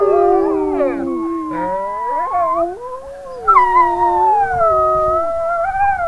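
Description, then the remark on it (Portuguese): A man imitates a wolf howl, his long wavering call mixing with several other overlapping wolf howls that rise and fall together in a loud, sustained chorus, with no talking. “… faz uma brincadeira e imita o uivo dos animais.”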